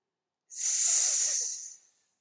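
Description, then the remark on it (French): A single long, airy exhale pushed out through pursed lips during a breathing exercise, the second repetition, a steady hissing whistle lasting over a second before trailing off, fairly soft, with no voices. “Donc on y va pour la deuxième fois. Laissez siffler.”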